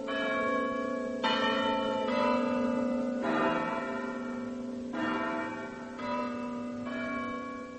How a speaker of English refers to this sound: Bronislav cared very much for Elisabetta, so a few weeks later, the bells of the little church proclaimed them man and wife.